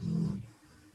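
animal, dog snoring

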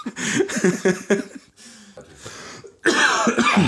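human body sound, coughing

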